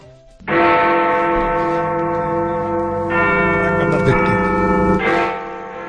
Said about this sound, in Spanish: Suena ya la campana de Alberto Estella.